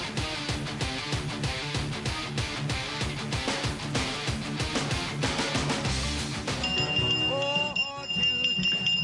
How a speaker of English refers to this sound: Now, the bell that is ringing on my desk is not a good humor bell. I know many of you think it is because it's July and it's hot. Reminds you of the ice cream trucks today, pervs driving around.